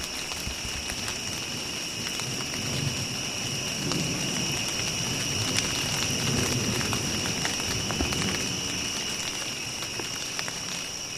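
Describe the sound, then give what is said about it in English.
Steady rain pours down in a continuous hiss as a storm rolls in, with low rolling thunder rumbling beneath it. Two high insect-like tones drone constantly throughout. “I'll share some of my favorites while the storm rolls in.”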